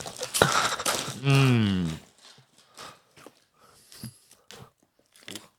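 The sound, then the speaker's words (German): Popcorn crackles and crunches inside a rustling bag in a dense, loud burst, broken by a brief wavering tonal squeal, then scattered soft crackles and quiet mouth sounds follow. “Knister, knister, da knistert es schon wieder in der Tüte.”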